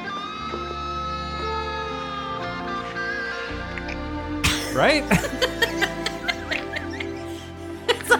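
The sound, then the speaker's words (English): Wet, smacky chewing of a banana, a quick irregular run of squelchy clicks and smacks that starts about halfway through over a steady humming tone. A voice briefly speaks. “It's like halfway between gum chewing and mouth fart noises.”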